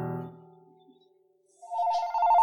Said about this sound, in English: We got a phone call. Phone's ringing, dude.